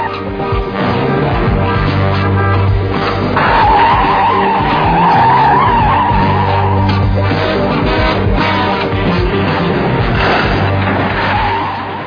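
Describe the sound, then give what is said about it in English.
Tires squeal and skid loudly over roaring car engines as cars are driven for a film chase scene on a New York street on a Sunday, a sustained screech rising midway and continuing for several seconds amid a busy, continuous rumble of racing vehicles. “All these cars, needless to say, are our cars.”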